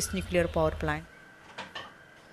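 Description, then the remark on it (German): A voice talks for about a second, then gives way to quiet kitchen clatter as a woman cooks lunch, with a couple of soft clinks and knocks of pots or dishes and a faint steady hum underneath. “… steht in der Küche und kocht das Mittagessen für ihre schulpflichtige Tochter”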